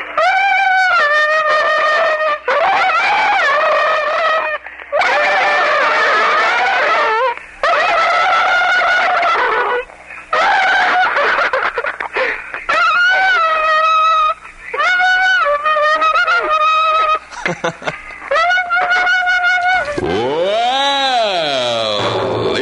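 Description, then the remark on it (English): A buzzy, nasal melody hummed through a comb, played in loud phrases with brief gaps and wavering pitch, ending in a gurgling, swooping gargle that rises and falls. An act of comb music and gargling performed on Wacky's Amateur Weekend, an amateur talent show on radio station WAKY Louisville. “we're going to do down by Lake River with the, with gargling and a comb.”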